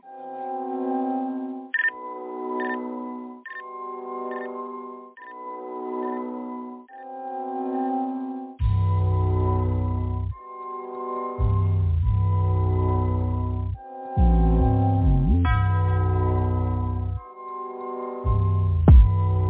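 A hip-hop track plays loud and close: a bright, choppy synth melody opens alone, then a heavy booming bass beat drops in around the midpoint and drives the rest of the music.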